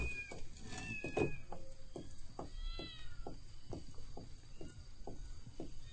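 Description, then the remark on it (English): Kittens meow in thin, high-pitched cries, several mews overlapping, while a steady series of soft tapping knocks continues underneath throughout. “Oh, kittens?”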